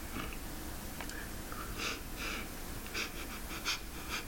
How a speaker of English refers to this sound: That's me breathing out of my nose. You shouldn't be able to hear my nose breaths. That's not cool, you know?